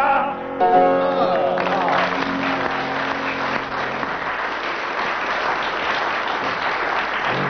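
Sustained audience applause lasting 25 seconds, a dense, steady clatter of many hands clapping that swells quickly after a brief tonal note at the start and holds at a loud, even level throughout.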